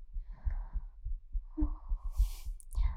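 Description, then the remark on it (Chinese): A rapid human heartbeat, heard with the head resting against the person's chest, thumps low and muffled in a quick steady rhythm, with a brief soft rustle of fabric partway through. “听到我心跳声。”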